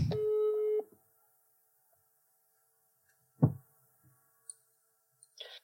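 A phone's ringback tone sounds once while calling someone back, a steady electronic beep lasting under a second, followed by quiet, a dull thump and a few faint clicks. No one speaks.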